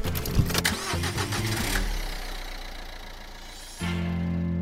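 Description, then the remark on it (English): A car engine cranks with a quick rhythmic starter whirr, catches and roars into a steady run, then settles into a louder, even idle. A private car, not a taxi, in Sydney. Clear, with no voices. “It's Dave O'Neill here on the debrief, and I'm in a car in Sydney with one and only Harley Breen.”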